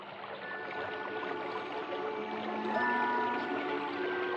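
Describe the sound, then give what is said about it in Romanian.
A broad river flows steadily and unhurriedly, its even wash of water filling the whole stretch without pause. Faint thin tones float above the murmur, and no one speaks. “Ei, ia te uite, apă, o apă mare. Ce lene scurge la vale.”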